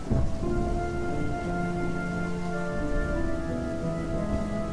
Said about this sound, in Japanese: この長い雨もようやく止むだろう。そんな気がする。